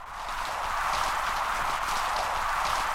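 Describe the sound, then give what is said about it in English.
A reef recorded underwater with a hydrophone about an hour or two after sunset: dense, continuous crackling from snapping shrimp and sea urchins, countless sharp pops and clicks, many probably from the snapping shrimp, layered into a steady, hissing texture with no voices. “This is just sound recorded off of a reef about an hour or two after sunset, and the noise is mostly sea urchins and snapping shrimp. A lot of the pops are probably the snapping shrimp.”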